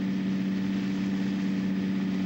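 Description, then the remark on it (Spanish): A steady, droning engine hum from a moving bus, low and constant with a strong tonal band, running unbroken throughout with no talking. “Indefenso mira a Joe, que dormita balanceado por el movimiento del autobús.”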